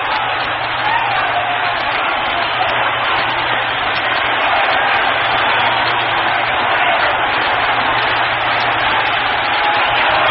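A baseball crowd yells in a steady, loud roar that never lets up over ten seconds, a dense wash of many voices with no single speaker standing out, after a two-run single ties the game 11-11.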